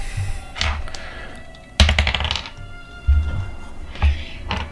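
Dice are rolled across a tabletop during a game, landing on a 9 and a 6, in a quick burst of sharp, clattering clicks, with scattered lighter taps and dull low thunks before and after. No one speaks.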